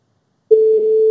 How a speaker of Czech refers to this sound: to zvoní, vypadá to dobře.